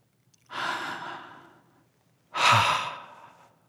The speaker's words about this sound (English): He's very sleepy and he's yawning.